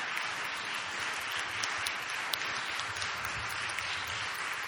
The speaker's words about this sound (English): In fact, this morning, is there anybody here who has been married like 40 years plus? Put your hand up. You guys, can you stand? We just want to applaud you. Seriously, stand up. Come on, guys.